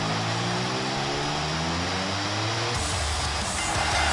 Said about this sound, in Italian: Il rombo di motore ci pronuncia l'arrivo di Dean Ambrose. Eccolo qui.